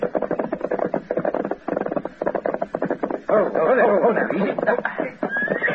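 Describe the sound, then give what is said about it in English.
Horses gallop with a dense, rapid, steady clatter of hooves, and partway through a horse lets out a loud wavering snort-like whinny over the pounding. “Yeah, here it goes. Get up. Come on, get up.”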